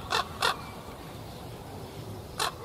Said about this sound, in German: Heute ist eben der Rabe in die Negativschlagzeilen gerutscht, und zwar dieser hier.